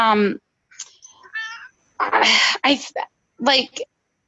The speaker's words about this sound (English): Like, sorry, I have a cat in the background.